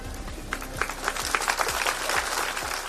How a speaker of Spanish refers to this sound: Ayer, minuto de silencio que se rompía con esos aplausos, la localidad guarda luto.